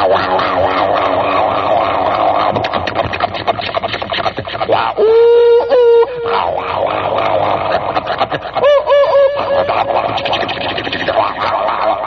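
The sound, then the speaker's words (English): A voice imitates a subway train rattling north: a steady rushing rumble, broken by a loud wavering squeal around the middle and a shorter squealing burst near the end. “Subway sound, right? That's a pretty good imitation of it.”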